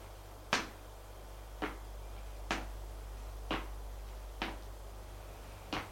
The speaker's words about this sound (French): Des pas dans le couloir.